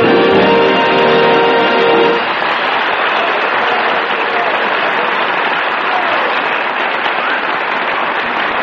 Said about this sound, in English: Thank you for applauding our musical aggression.